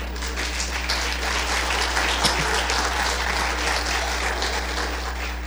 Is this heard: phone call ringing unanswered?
no